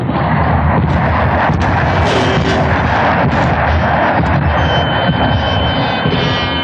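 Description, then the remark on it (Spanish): A loud, unbroken, dense roar from the engines of five combat jets flying in close attack formation above a plane piloted by Calimán, with faint crackling bursts scattered through it and no voices. “Y los 5 poderosos aviones de combate se colocan en formación de ataque en vuelo cerrado por encima del avión piloteado por Calimán.”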